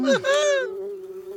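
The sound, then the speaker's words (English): A swarm of bees escaping from a papier-mâché hive buzzes loudly, a dense droning hum that swells and wavers at first, then settles into a steady, sustained buzz with no voices. “The bees escape from the papier-mâché hive.”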